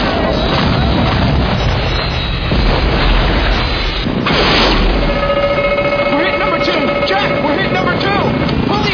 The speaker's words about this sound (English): There goes an engine.